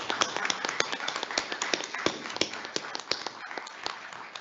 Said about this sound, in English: So I just want to give him a round of applause for everything he's done.